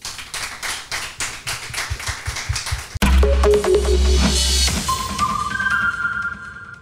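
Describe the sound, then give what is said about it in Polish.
Roughly three seconds of steady crowd applause with rapid, fairly even claps, cut off abruptly by a loud electronic jingle of humming low notes and rising synth tones. “Klaski.”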